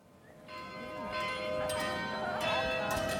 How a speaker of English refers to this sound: The bells of the old Nikolai Church in Frankfurt, Germany. Martin Luther likely heard them in the spring of 1521 as he headed home from a scary encounter with the Holy Roman Emperor, Charles V.